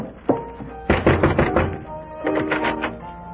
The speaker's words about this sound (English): I'll go up and knock on the door here.